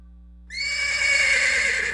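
A horse whinnies once, a loud, high, quavering neigh that starts abruptly and holds for about a second and a half, with no talking.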